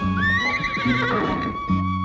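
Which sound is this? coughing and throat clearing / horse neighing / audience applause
horse neighing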